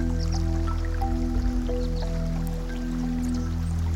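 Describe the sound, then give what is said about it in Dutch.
A small, clear stream trickles and burbles steadily over coloured stones, with scattered drips and splashes over a constant low hum, and no voices. “Het geluid van het water is prettig en rustgevend.”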